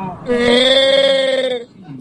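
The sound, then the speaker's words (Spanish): A single drawn-out sheep bleat, loud, with a wavering, quavering tone lasting over a second before trailing off into quiet background noise. “¿Qué es una oveja, eh? Ahí está.”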